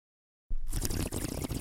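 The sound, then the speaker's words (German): After a brief silence, a steady, rushing gurgle of water bubbling through a bong starts up abruptly and keeps going, fairly loud and churning, with no voices. “Nee, das war mehr Bong oder so.”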